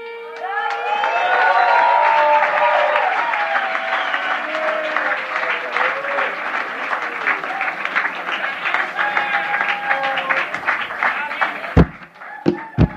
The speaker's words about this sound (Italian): Mi fate un po' di applauso dedicato esclusivamente a